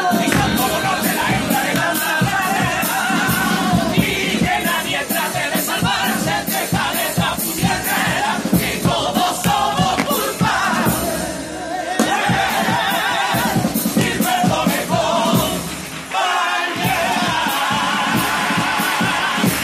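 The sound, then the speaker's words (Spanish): An audience at the Cádiz carnival applauds loudly and steadily after a carnival song's lyrics, dense clapping mixed with cheering voices, sustained for about twenty seconds with a brief dip near the end. “Sin duda, de las letras más aplaudidas en el día de ayer.”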